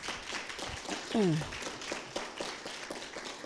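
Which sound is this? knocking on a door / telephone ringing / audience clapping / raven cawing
audience clapping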